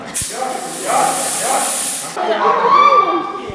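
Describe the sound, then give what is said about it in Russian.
A smoke machine sprays theatrical smoke into a room during a fire evacuation drill, a loud, steady high-pitched hiss for about two seconds, then cuts off abruptly. Voices murmur underneath, continuing after the spray stops. “В помещение дается театральный дым.”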